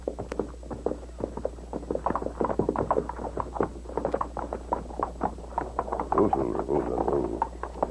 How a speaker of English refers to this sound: What is it, Silver? You hear something. I do too now. Sounds like several horses.